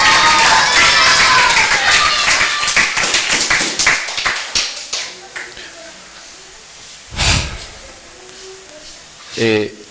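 A burst of applause from a small group, dense clapping at first that thins into scattered claps and dies out within a few seconds, followed by quiet with a couple of brief breathy noises.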